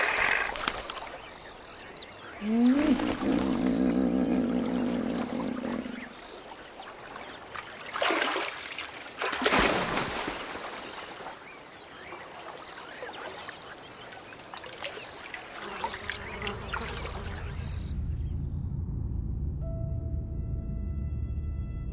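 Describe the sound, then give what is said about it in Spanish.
Hippopotamuses snore and grunt as they relax in the shallow water of the Emsima spring in the Eastern Rift Valley. A deep drawn-out groan early on is followed by intermittent wet snorts and splashes, over steady lapping and trickling water. “Las aguas serenas y someras soportan su gran peso. Ahora se relajan, roncan y alternan a gusto.”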